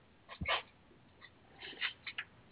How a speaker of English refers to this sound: I wish this dog would shut the hell up. Hey, shut up! God damn it, I can't stand animals that just nonstop bark and yelp and Jesus Christ Almighty.